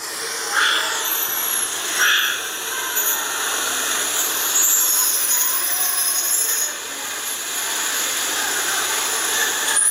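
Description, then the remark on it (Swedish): Goeldi's marmoset calls played from a phone recording: thin, very high-pitched whistles held as long steady tones, overlapping one another throughout, with a couple of brief louder bursts early on. A toco toucan is also heard in the background. The marmosets communicate with each other using many different sounds. No one speaks. “Men, nej, men det här är ljud från Goldis-apor.”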